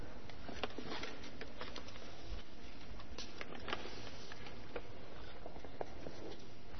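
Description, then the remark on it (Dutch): Dense, steady pattering of hailstones striking surfaces, with scattered sharper ticks throughout; a continuous, moderately loud downpour with no voices. “Wil je alsjeblieft zorgen dat deze hagel ophoudt?”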